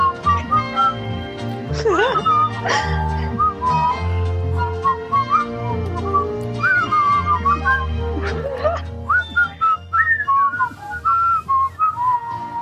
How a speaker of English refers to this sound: I got a whistle. I'll try.